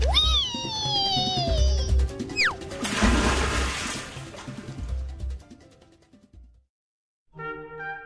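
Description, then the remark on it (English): A long descending slide-whistle swoop as someone rides a water slide on a cruise ship ends in a loud, broad splash of water that churns and fades away, followed by a brief pause and a short bright tonal sting. “Water slide, water slide!”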